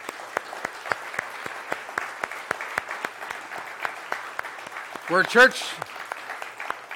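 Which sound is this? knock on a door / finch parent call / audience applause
audience applause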